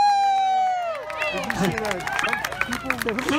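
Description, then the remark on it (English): A long whooping shout rings out, then a crowd bursts into scattered applause for the mariachis, with whistles and cheering voices rising and falling, lively for a few seconds. “So look, I'm so glad that we have mariachis here. Let's give it an applause.”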